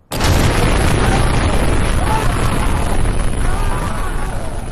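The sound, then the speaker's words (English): A sudden, loud explosive blast marking the beginning of a war hits almost immediately, then gives way to a heavy, sustained roaring rumble that stays powerful and dense right to the end, with no talking. “So that's the explosion that the sound engineer inadvertently captures, and it marks the beginning of the war.”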